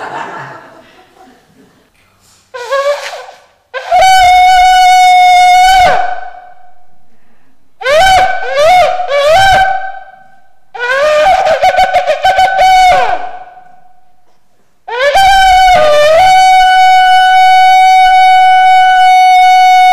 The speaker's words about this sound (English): There's a long blast, followed by three shorter blasts, then seven, what we call staccato, very, very short blasts, and then a longer version of the long blast. So here we go.